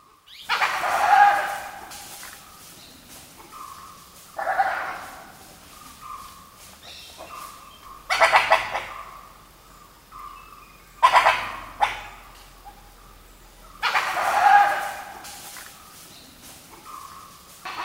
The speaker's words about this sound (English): Now, Vijay was close enough to see the animal making this noise. It's a type of wild dog called a dhole. Dholes are native to southern and eastern Asia, and they're related to other canines, like coyotes and jackals.